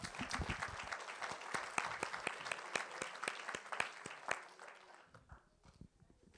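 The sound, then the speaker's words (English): A crowd claps together as praise to the Lord, dense and steady applause with sharp individual claps standing out, lasting several seconds before thinning out and fading toward the end. “Can we just give the Lord a clap?”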